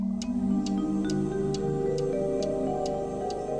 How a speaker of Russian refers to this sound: В темной комнате стояла тишина, только стенные часы отстукивали. Тик-так, тик-так